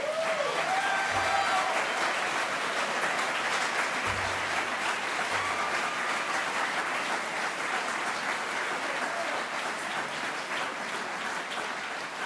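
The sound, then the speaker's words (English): A large audience claps steadily for about twelve seconds, a dense, even wash of applause with no speech over it, applauding the participants and staff of city programs in Rochester. “Thank you for that round of applause for all of our program participants and the staff who work in those programs.”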